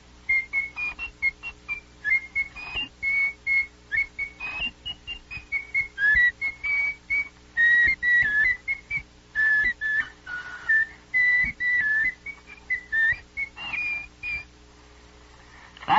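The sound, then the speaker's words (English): A person whistles a lively tune, the clear notes moving in short phrases and steady rhythm with brief pauses between them, with no talking. “He could whistle tunes.”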